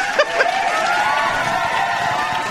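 An applause sound effect played from a keyboard during a live stream: a burst of crowd applause with cheering mixed in at steady volume, a dense wash of clapping that holds throughout with a couple of sharper claps at the start.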